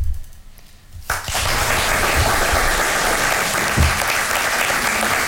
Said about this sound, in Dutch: Ja, dat is natuurlijk best een applaus waard op zondagochtend.